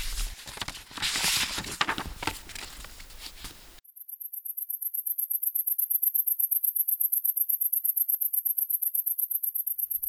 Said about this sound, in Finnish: Olet varmaan nähnyt heinäsirkan kesäisellä niityllä ja kuullut sen sirityksen. Ainakin Räyskälän lentokentällä Lopen suviseuroissa niitä oli paljon. Heinäsirkka on hyönteinen. Heinäsirkan siritys on hyvin korkeataajuista.